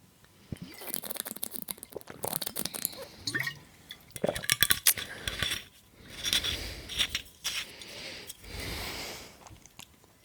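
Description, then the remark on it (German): Someone drinking special water from a glass: light clinks of glass, then a series of sips and swallows with soft breaths in between, no talking. “Ich glaube, die meisten, die auch Sodbrennen oder ähnliches haben, wissen, was für Wasser ich trinke. Und ja, Prost.”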